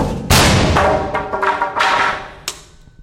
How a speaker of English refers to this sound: We aim the cannon at another sheet of plywood, this one twice as thick. Firing in 3, 2, 1.